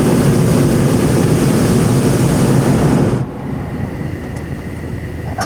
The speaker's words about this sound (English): Fire is just echoing through the canyons like a dragon.